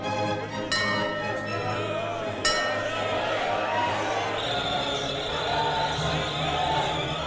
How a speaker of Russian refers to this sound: Слышите? Это свистит начальник станции, отправляя поезд.